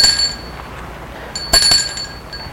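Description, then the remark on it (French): A doorbell at a house rings with a bright, high metallic tone that hangs in the air, then is struck again sharply partway through, its shimmering ring sustaining to the end. No voices. “Sonne.”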